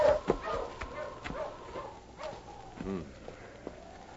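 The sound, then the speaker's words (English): A sled dog team in the snow barks and whimpers in quick, overlapping bursts, lively, with a man's voice briefly calling out among the yelps. “Stop them dogs”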